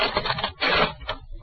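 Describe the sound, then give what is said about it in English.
A sheet of paper is pulled from a typewriter: a rough, ratcheting scrape in several uneven bursts over about a second and a half, with no voices. “Take it out of the typewriter.”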